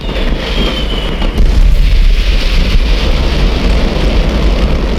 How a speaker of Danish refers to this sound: Flere hundrede tons fyrværkeri detonerer, og en paddehattesky rejser sig over Seest. Himlen er tildækket i røg og glimtende blink fra farvestrålende eksplosioner.